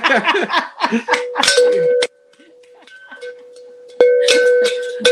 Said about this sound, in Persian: اینا با این ناقوس جشن تولد 10000 رو شروع می‌کنیم.